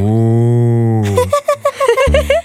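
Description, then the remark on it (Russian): A cow lets out a long, steady low moo lasting about a second, then quick bright chirping bursts follow before a second deep moo starts near the end. “Радуются дети и даже коровы.”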